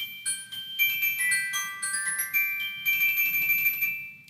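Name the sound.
glockenspiel being played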